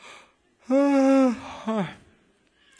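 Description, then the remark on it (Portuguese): A person voices an exaggerated, drawn-out yawn: a loud, sustained open vowel that tapers off, followed by a shorter rising-falling sigh, with no other sounds. “Mas antes de levantar, ele bocejou.”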